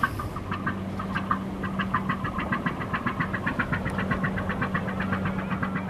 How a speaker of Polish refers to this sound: To był amerykański jakiś rodzaj holownika przerobionego na wycieczkowy z silnikiem jednocylindrowym. Bardzo piękny głos wydawał z siebie.